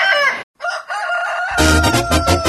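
A rooster crows loudly, a strained, drawn-out call broken by a brief pause, with a fuller burst of sound swelling in behind it toward the end.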